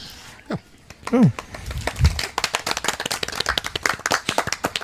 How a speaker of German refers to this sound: Das ist, glaube ich, der schönste Applaus auf dem Podstock, weil der so schön gesittet an den Mikrofonen stattgefunden hat.